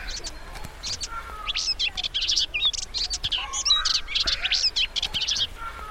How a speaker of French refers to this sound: Ben, elle a des rouges-gorges, elle a des moineaux, elle a des tourterelles, elle a plein de choses. Tu penses qu'il y a beaucoup d'oiseaux qui vivent dans cette forêt ? Ouais, parce qu'on en entend plein.